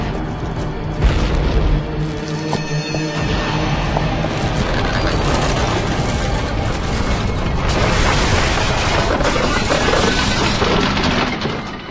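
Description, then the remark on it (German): A massive sci-fi explosion of a hit mothership booms out, followed by a sustained roaring rumble as the shockwave strikes a dome, loud and dense with crackling debris throughout, no voices. “Die Schockwelle der Explosion traf meine Kuppel.”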